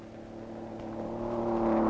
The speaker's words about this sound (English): He's off, back on the salt, going farther, faster than any car has ever been driven before.